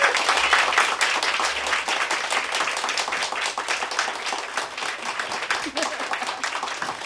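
A crowd applauds steadily, dense overlapping claps forming a loud, sustained wash of sound that holds its level for several seconds without pause.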